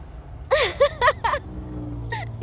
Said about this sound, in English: Oh, shit, there's a car coming. Wait.